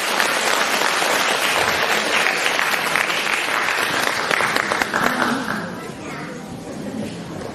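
A large audience applauds warmly to welcome Lu Junhong, a dense and steady wash of clapping that holds strong for several seconds before easing to a softer level near the end.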